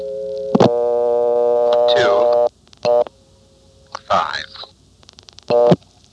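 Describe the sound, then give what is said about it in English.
A steady telephone tone hums, broken by short bursts of dialing signals as a ringing number is dialed the short way, then brief repeated ringing-style tone pulses follow with gaps between them, fairly loud on the line. “Here's calling a ringing number the short way.”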